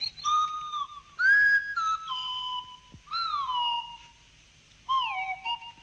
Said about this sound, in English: The Clangers themselves communicate through a series of whistles, which, though initially bizarre, quickly becomes understandable to the audience.